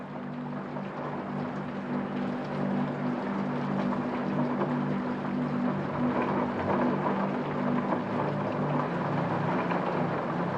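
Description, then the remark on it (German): Steady, muffled distant rain heard from indoors, a soft continuous patter with no breaks, over a low, constant droning hum in the room. “Der Regen ist nur entfernt zu hören.”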